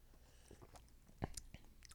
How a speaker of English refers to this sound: Well, let's take a little sip.